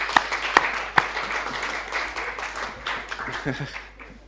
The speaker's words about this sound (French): Est-ce que tous les jeunes qui étaient avec moi, vous pouvez venir devant ? Et on peut même les applaudir parce que c'était super, hein, ce qu'ils ont fait.